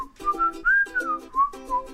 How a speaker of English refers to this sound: We're so good at whistling.